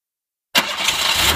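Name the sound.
car engine starting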